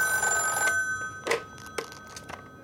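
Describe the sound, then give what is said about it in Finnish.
A telephone bell rings in one sustained burst, then stops, followed by a few sharp clicks and clunks as the handset is picked up. No one speaks. “Ministeriön vahtimestari puhelimessa.”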